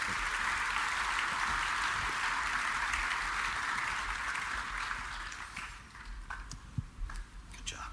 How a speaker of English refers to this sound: And give them all a nice round of applause.